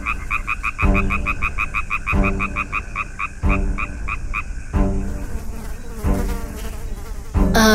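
A fly buzzes, a steady droning whine that wavers in pitch, mixed with rhythmic pulsing croaks and chirps repeating throughout in short bursts.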